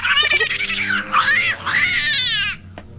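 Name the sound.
cat yowling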